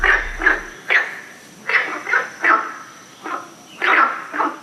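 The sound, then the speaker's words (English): A water frog in the Beijing region calls again and again, about nine short, rasping croaks in a loose, uneven rhythm, fairly loud and mid-pitched, with a faint steady high hum underneath and no talking. “The only other water frog species that occurs in the same region is the Beijing gold-striped frog, which supposedly sounds pretty different, although I have no idea how, as I've never heard it before.”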